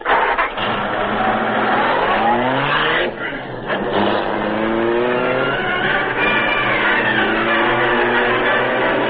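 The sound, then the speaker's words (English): A car engine revs hard and accelerates in pursuit of another car, its pitch sweeping upward through several gear changes, loud, with a brief dip before roaring on steadily. “There he goes. Get after him, Cato.”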